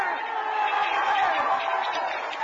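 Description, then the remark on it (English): A large audience at a town hall on health care roars and shouts together in a dense, steady wall of overlapping voices, loud, with no single speaker standing out for the whole couple of seconds. “sounds to me like that crowd was very interested in health care.”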